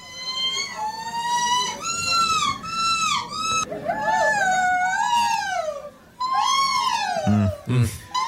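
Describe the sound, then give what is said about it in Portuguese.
A person competing at the 5th European championship of gull imitators imitates a gull with a series of loud, wavering, harmonic cries that sweep up and down, sounding more like a howling or yelping dog, with a few brief low grunts near the end. “esta mescla de participantes no 5º campeonato europeu de pessoas que imitam gaivotas.”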